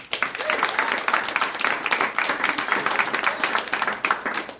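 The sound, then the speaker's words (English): Steady audience applause fills the whole stretch, a dense wash of many hands clapping at an even, sustained loudness with no voices standing out. “So, with your applause, starting with Ed Salazar, Slimer.”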